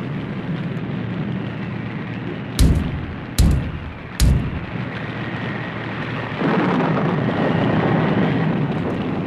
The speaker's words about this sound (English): He told me just to go to the door here and knock.